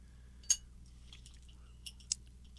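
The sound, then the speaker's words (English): Someone snacking: a few sharp, crisp crunches stand out among softer scattered clicks and rustles, over a steady low hum, with no talking. “And the sounds of snacking in the background is...”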